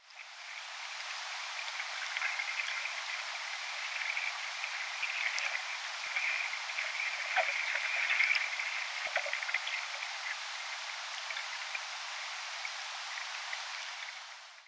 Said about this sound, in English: Here are the sounds from uninfected trees.